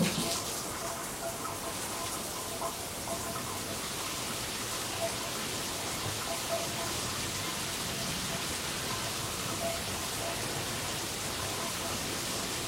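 A shower runs steadily in a bathroom, a dense, even hiss of falling water that stays at the same level throughout, with no pauses.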